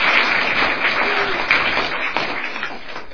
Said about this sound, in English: And I do want to thank each of our readers, and I want to thank our musicians as well. Let's give a round of applause to our fantastic musicians.